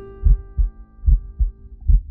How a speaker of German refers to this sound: Den Beat unseres Lebens. Den mütterlichen Herzschlag. Wir hörten diese eigenwillig anmutenden rhythmischen Signale, vermischt mit einem gleichförmigen Rauschen, dem Blutkreislauf unserer Mutter.